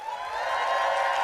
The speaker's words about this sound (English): And then last but not least, and the fact that people are about to clap for this, just chef's kiss